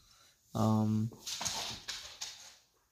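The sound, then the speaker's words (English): A little puppy, Bush, lets out a single drawn-out whiny yelp lasting about half a second, fairly loud, followed by scattered rustling and knocking sounds. “That's just the puppy in the background.”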